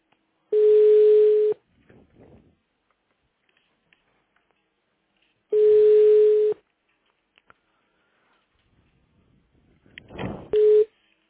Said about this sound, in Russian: Ну, если он сейчас не ответит. Хотя вроде гудок идет.